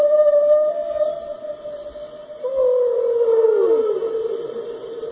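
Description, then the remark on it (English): A long, steady whale moan holds one pitch, swells after a brief dip, then bends into a slow downward glide. Loud, with no voices alongside. “And this is what a whale sounds like.”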